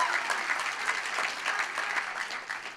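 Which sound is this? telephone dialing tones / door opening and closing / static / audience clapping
audience clapping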